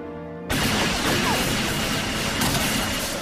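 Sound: gunfire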